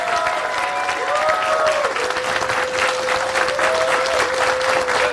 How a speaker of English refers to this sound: So a round of applause for everybody coming out today.